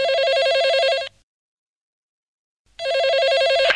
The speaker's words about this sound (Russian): 2-й звонок на мобильный, гудок ожидания вызова.